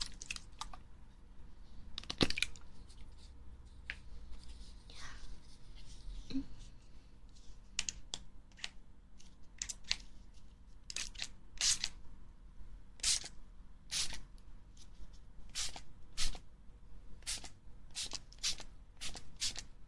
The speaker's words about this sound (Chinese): 稍等，我再给您喷一喷这个定型的喷雾。